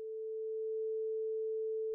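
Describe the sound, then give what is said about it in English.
A single steady electronic synth tone, made from sawtooth and square waves run through filters into a smooth, pure hum, holds one low-mid pitch for about two seconds with no other sounds and no talking; simple music synthesis like that of the Pac-Man days. “I use a variety of waves. I use sawtooth waves, square waves, and I ran them into filters.”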